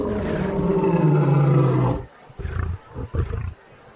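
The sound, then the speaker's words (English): A caged lion named Prince, part of the Great Lafayette's stage magic act, lets out a deep, loud roar lasting about two seconds, followed by several shorter grunting huffs that fade out, with no one speaking. “And as he gets close to the cage, right on cue, the lion roars.”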